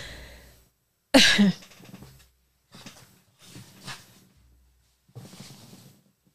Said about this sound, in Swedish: Jag snöt mig istället, kanske det blir bättre.